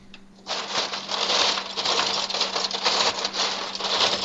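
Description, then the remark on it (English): Ice cubes are dumped into a big container of limeade mix in a continuous rattling, clattering rush lasting several seconds, a dense hard clinking that starts abruptly and stays fairly loud throughout. “Now, I'm going to dump some ice in there.”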